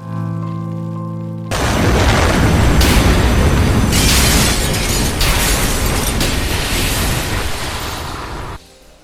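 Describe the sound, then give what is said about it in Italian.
A bomb explodes about halfway through a train tunnel. After a low hum, a sudden massive blast becomes a loud, sustained roaring rumble with crackling debris for several seconds before cutting down near the end. The blast of air shatters the train's windows and doors. No speech. “Lo scoppio, avvenuto a quasi metà della galleria, provocò un violento spostamento d'aria, frantumando tutti i finestrini e le porte.”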